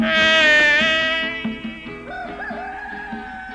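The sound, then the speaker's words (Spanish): A rooster crows in a long, loud, strained call that fades over a second or so, followed by a softer, wavering crow trailing off. No one speaks. “Oye, ya están cantando los gallos.”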